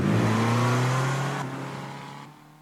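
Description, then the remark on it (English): A Fiat 500 Abarth engine revs with a loud, raspy roar over a steady low droning note, holding briefly before the sound drops off in two steps. “The Fiat 500 Abarth. You'll never forget the first time you see one.”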